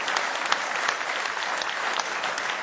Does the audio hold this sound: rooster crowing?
no